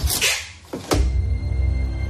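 A family home's front door is opened at breakfast time after the doorbell rang, with a scrape and a sharp latch clack, followed by a steady low rumble. No one speaks.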